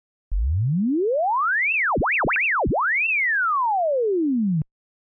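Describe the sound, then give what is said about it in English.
A steady pure test tone sweeps from a low hum up to a high whistle, warbles rapidly down and up for a moment, then glides smoothly back down, holding constant loudness with no voices. “Swept sine wave.”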